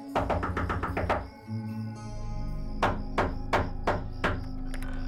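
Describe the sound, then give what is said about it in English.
A rapid flurry of sharp knocks on a house's front door at 3 in the morning, a short pause, then five slower, heavier knocks, all loud over a low, steady musical hum. “At one point, he even tried knocking on the door of the man who currently lived at 147 Easy Street.”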